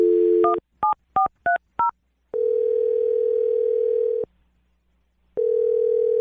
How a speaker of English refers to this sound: Okay, I'm going to dial his phone number right now. Here we go.